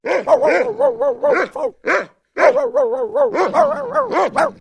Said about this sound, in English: The dogs barked furiously in their kennel as the children disappeared into the distance.